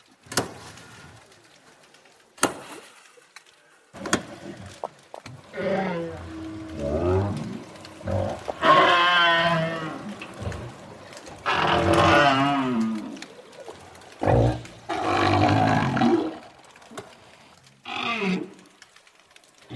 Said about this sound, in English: Those were southern right whales having a good old chat about, well, something. We're not exactly sure what.